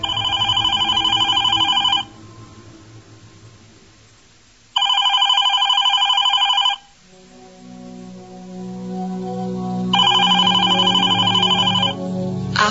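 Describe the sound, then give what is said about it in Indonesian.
A landline home telephone rings in three loud, steady bursts separated by short pauses, each a bright electronic trill, with a low background hum filling the gaps. “Ketika aku sedang mengobrol, telepon rumah berdering.”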